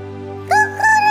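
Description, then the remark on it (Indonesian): A rooster crows in a short, bright burst that rises and then breaks into a second strained note, heard over a steady low hum, with no talking. “Berkokoklah, ayamku.”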